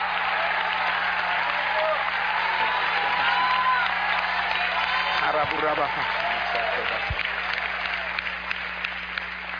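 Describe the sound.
An audience claps their hands in praise of the Lord in a sustained, dense wash of applause, loud and steady throughout, with a few shouts and voices mixed in beneath the clapping.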